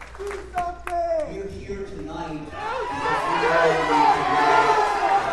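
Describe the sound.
A crowd at a Sunday memorial in Dayton, Ohio, for people killed that morning rises into a loud, sustained chant of "Do something" that swells and drowns out DeWine's remarks, with scattered shouts and some clapping mixed in.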